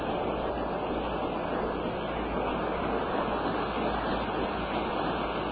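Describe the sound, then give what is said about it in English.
A crowd claps steadily, a dense, even wash of many hands with no pauses or swells across the whole stretch, and no one speaking over it. “Yeah, I'll let the Attorney General hear you clap.”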